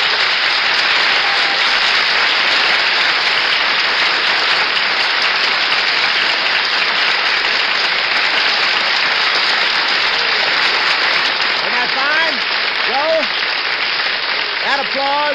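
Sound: studio audience applause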